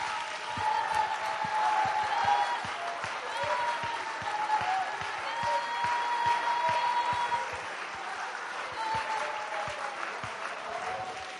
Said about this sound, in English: Clap your hands, all ye people, and shout unto the Lord with the voice of triumph.